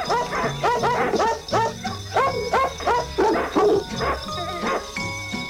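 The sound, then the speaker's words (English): Dogs bark over the phone in a quick, steady string of sharp yips and woofs, one after another for several seconds, with a faint tonal hum running underneath. “Those dogs are getting tired on the phone.”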